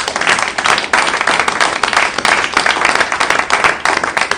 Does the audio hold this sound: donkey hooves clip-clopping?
no